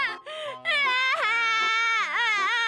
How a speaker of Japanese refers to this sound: ガチ泣きやぞ。